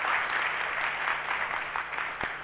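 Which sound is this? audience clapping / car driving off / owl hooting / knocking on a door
audience clapping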